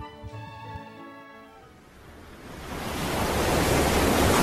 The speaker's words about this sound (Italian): Ma guarda quelle onde, Johnny. Guardale!